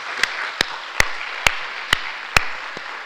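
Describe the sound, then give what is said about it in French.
Audience applause for Hervé González, a steady wash of clapping with a few sharp, louder claps standing out at a regular rhythm. No one speaks. “Donc on peut l'applaudir, je pense.”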